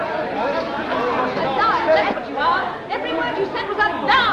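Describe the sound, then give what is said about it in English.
An angry crowd clamors in a courthouse hallway as it closes in on a woman, many overlapping voices shouting and murmuring in a steady, loud din with no single voice standing out, rising in brief surges throughout. “Out in the hall, an angry crowd closes in on Christine.”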